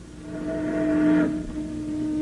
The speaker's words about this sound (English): A steamboat.